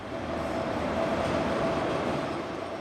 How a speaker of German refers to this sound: Dann rollt der Zug langsam in den Bahnhof ein, einige Minuten zu früh, nach 9 Stunden Fahrt.